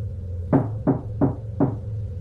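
knocking on a door

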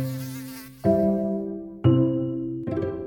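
mosquito buzzing

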